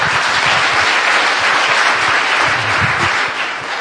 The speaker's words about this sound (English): So come on, give her a clap. It's amazing.